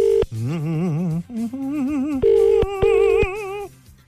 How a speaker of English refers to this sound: It's ringing. It's ringing. This is a cost cutters we're calling.